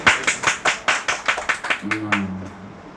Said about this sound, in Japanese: 拍手する人いるよね。